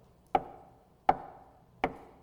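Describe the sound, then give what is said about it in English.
Three sharp knocks on a door, evenly spaced about three-quarters of a second apart, each with a brief hollow ring that fades before the next. No voices are heard. “That means someone's where? At the door.”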